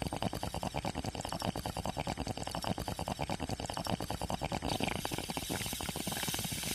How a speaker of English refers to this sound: Yeah, you like this bong rip.